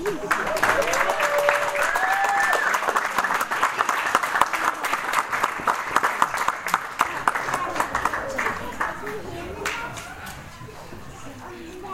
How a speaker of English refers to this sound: Let's have another round of applause for these kids.